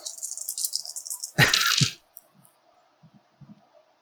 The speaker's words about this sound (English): No, yeah, so I heard two dice, so it's extra dead. It's three dice.